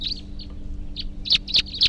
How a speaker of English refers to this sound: There may be wild birds coming around here now.